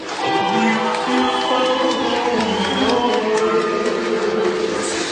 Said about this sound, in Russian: Вот сейчас дайте аплодисменты.